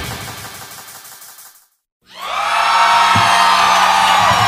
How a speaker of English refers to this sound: I don't know what we're yelling about!